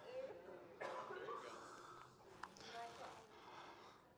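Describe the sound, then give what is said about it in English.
Breathy sniffing as someone draws in the scent of a bottle of fish attractant that smells like red worm through the nose, a few noisy inhalations over several seconds with muffled vocal sounds mixed in. “Come on, come on, give it a good sniff.”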